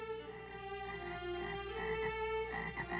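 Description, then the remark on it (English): A dense chorus of frogs croaking continuously, many voices overlapping in a steady, pulsing drone that stays fairly loud throughout, with no talking. “Jesus sent many frogs to Egypt. The frogs were everywhere.”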